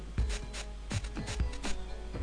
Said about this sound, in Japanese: カッチカッチと車のハザードランプの音だけがやけに大きく響く。それだけが世界のリズムになる。全てがそのリズムで成り立っている。